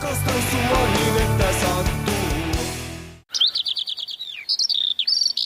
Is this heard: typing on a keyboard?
no